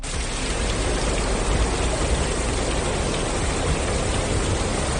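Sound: heavy rain downpour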